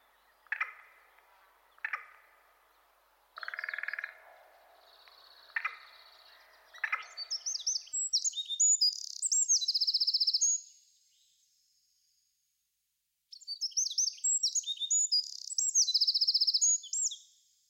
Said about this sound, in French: Ça, c'est le rouge-gorge. Sûr. Ou troglodyte. Si, super aigu, je trouve aussi. Troglodyte mignon.